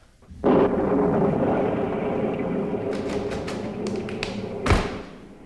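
A steady roar of heavy rain from a thunderstorm at night sets in suddenly, with sharp crackles later and a loud, booming thunderclap near the end; no voices.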